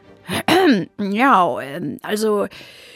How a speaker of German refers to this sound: räusperte sich.